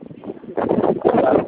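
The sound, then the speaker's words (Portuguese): Muffled wind buffeting a phone line, a low rumbling rush that swells louder halfway through and stays rough and crackly, with no clear voice coming through. “Porque a ligação tá ruim, tá ventando.”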